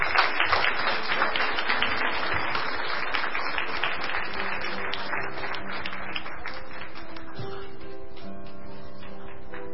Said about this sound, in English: And thank you to all of our pageant participants. If you'd like to give them a little round of applause, I think that would be okay.